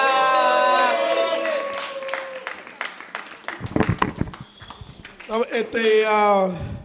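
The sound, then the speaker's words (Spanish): A burst of audience clapping breaks out in the middle, sharp claps of moderate loudness, with people talking before and after it. “Fuerte aplauso para Lonnie Contreras.”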